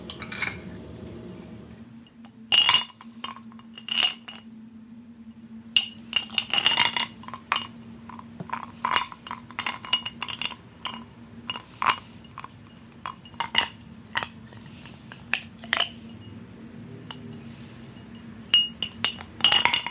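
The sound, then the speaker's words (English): An ice cube clinks against a glass again and again during a mikveh ritual, in irregular taps, some sharper and louder than others, over a steady low hum with no talking. “This ritual requires an ice cube and a glass.”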